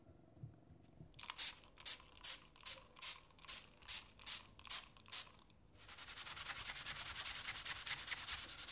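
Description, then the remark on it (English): A trigger spray bottle sprays cleaner onto a cooker hob in about ten quick, even bursts in a steady rhythm, crisp, then gives way to a continuous rasp of scrubbing the hob that carries on to the end. “And before I know it, I'm lost in a little world of my own, where all my problems can be wiped away as easily as spraying and scrubbing the cooker hob.”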